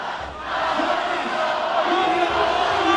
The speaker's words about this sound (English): Assembly Speaker John Perez and Senate President Daryl Steinberg addressed the crowd too, but at times found their words drowned out by chants of, "Show us."